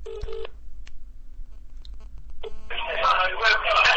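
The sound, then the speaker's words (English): A phone ringback tone buzzes briefly, pauses for about two seconds, then sounds again before a noisy, crackly line cuts in as a call placed live on World Away Radio connects. “I'm just going to phone him up and see where he is. He's just come back from Australia. It's ringing.”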